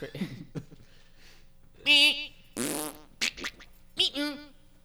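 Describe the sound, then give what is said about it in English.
A person imitates fart sounds with their mouth, making several loud, buzzy bursts after some brief speech-like sounds, each raspberry lasting under a second. “And bird and weird shit, fart sounds. Yeah, like that.”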